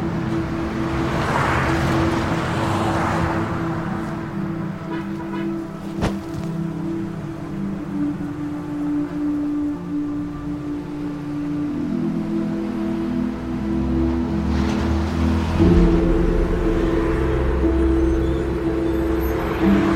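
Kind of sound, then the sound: vehicle, car driving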